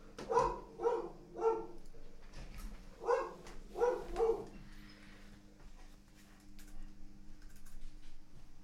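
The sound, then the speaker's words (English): A dog barks and yelps in two quick bursts of three, loud, reacting as a lawn starts being mowed, then falls quiet, leaving a low background hum with faint tapping. “So, okay, I started mowing my lawn and my dog started simultaneously freaking out about it at the same time.”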